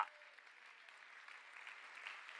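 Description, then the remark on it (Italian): A church audience applauds for the Lord in a dense, steady wash of clapping that holds at an even level from start to finish, with no voices standing out above it. “Fai un applauso forte per il Signore.”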